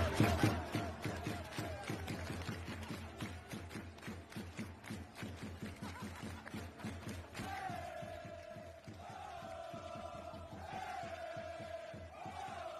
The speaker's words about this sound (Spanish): Los hinchas acompañaban el cántico con aplausos.